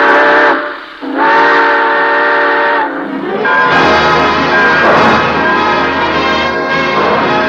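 A steam train whistle sounds in two long, loud blasts, then a clanging bell and a rumbling engine build as the train pulls out, closing the Railroad Hour radio show. No voices.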